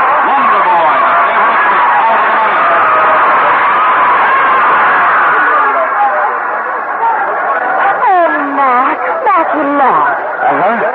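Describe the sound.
A loud, steady roar of a horse-race crowd at the finish of a race, many voices cheering and shouting at once, with individual yells rising and falling above the din toward the end.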